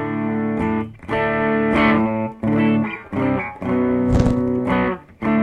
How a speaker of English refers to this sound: So let's see what Mr. Roll Boost does. Oh, that's nice. That is a really nice clean boost.